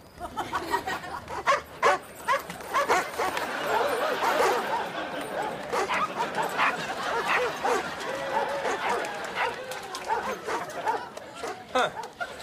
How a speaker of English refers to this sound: what are all those dogs doing in your room?